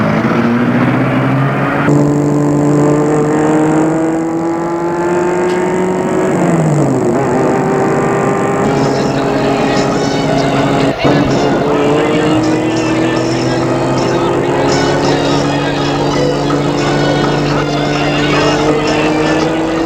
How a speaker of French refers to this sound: Il fait entrer dans la voiture. Elle est climatisée, tant mieux. Le chauffeur entre lui-même et met la voiture en route.